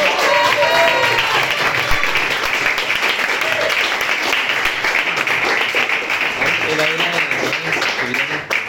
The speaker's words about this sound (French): J'aimerais qu'on l'applaudisse.